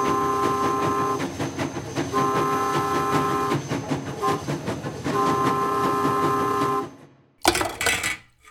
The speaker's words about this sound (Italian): Ad un tratto, lo sferragliare del treno iniziò a rallentare.